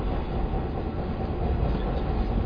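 An electric passenger train runs along the rails with a steady low rumble and a faint rhythmic clatter of wheels, heard from inside the carriage with no voices.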